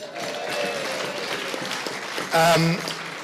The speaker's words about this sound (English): So let's just say a big cheer for Terry.